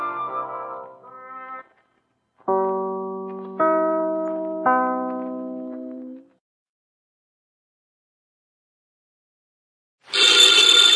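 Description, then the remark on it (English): A telephone bell bursts into a loud, harsh ring near the end, opening a Nero Wolfe radio drama, after a stretch of silence. Earlier, three clear sustained chime tones sound one after another, each slowly fading. “Ladies and gentlemen, the ringing of that phone bell brings you mystery, adventure.”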